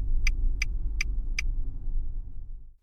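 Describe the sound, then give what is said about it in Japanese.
A car's low, steady engine rumble with four evenly spaced clicking ticks early on, then the sound dies away as the vehicle comes to a stop to drop off a passenger. “あ、車ここで大丈夫。学校の前で降ろしてもらうと先生うるさいし。”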